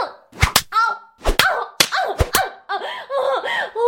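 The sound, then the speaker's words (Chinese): About six sharp, loud slaps land in quick pairs and single hits on a person's buttocks, with a voice whimpering and crying out between and after the strikes. “你打得越重，婊子这条狗就越爽。”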